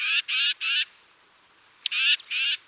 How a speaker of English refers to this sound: Titmice are loud and vocal birds, which could make them particularly easy to follow.